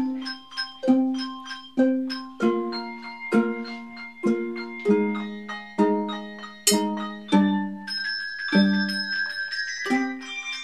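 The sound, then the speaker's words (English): A handbell choir rings a steady sequence of bright, overlapping bell chords, each struck note ringing out and fading as the next arrives, with a sustained high shimmer toward the end. “But they say performing in a handbell choir is unlike any other form of music.”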